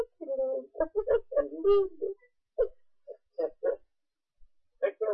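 A dog barks and yips in a quick, uneven series of short bursts, some drawn out into whiny, higher-pitched cries, moderately loud, with brief pauses between them.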